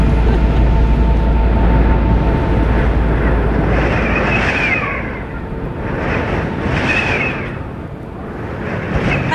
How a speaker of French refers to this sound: Le vent de face avec la pluie, c'est génial. On change des conditions de tempête, on se les attrape.